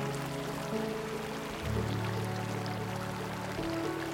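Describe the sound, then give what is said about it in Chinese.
Steady, continuous babble of flowing stream water, moderately quiet, blended with soft sustained musical tones underneath; no one speaks. “感受小溪把爱心带入你的内心。小溪也为那柔软的地方带来洁净。”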